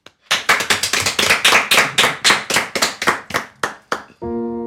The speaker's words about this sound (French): Et si vous voulez bien, nous, on va vous applaudir pour vous encourager.